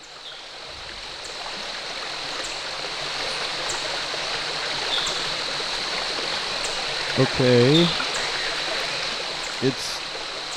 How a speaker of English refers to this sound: There's a lot of water all around the studio.